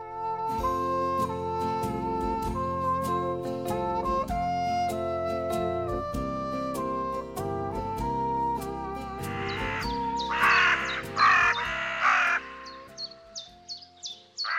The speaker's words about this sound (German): Raben und ihre Rufe und Stimmen. Die gehören ja zu den Singvögeln, obwohl man das nicht glauben will, weil die Stimmen jetzt nicht besonders schön sind gerade. Aber ja, sie gehören zu den Singvögeln und sie singen auch.